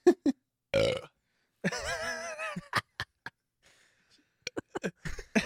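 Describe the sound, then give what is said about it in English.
A long, loud, gurgling burp stretches out for about a second, preceded by a shorter belch and followed by scattered clicks and small mouth noises. “The burps are the worst, man.”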